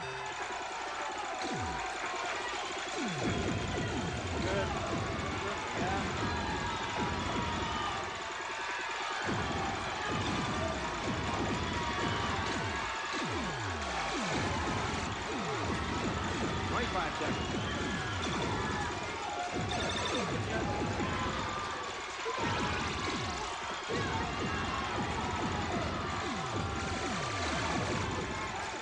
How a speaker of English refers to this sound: You have 40 seconds to play Time Pilot. Watch out you don't get hit by any of the missiles or the other bullets. Shoot as many planes down as you can.